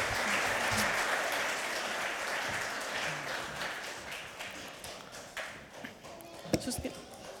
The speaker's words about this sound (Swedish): Bra, en applåd för våra aktörer.